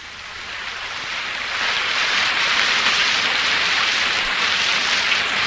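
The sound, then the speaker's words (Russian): Heavy rain and storm wind roar in a steady, dense hiss that swells slightly louder after the first couple of seconds and then holds, with no voices present. “Но дождь и буря, казалось, не могли сравниться с тем, что бушевало у нее в груди.”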